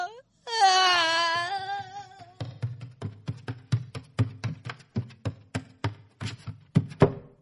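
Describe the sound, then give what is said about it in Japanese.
A child bursts into a long, high-pitched wail that slowly falls, then continues sobbing in short, rhythmic gasping cries, fairly loud, with soft tapping or bumping underneath. “本気で泣いてたじゃん。”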